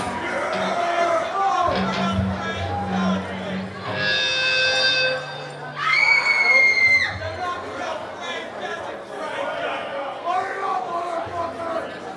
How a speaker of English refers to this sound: That's what the girly screams.